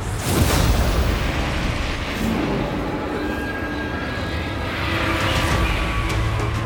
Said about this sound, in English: He heard an explosion.